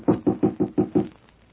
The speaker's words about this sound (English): Shall I knock? Yes, son.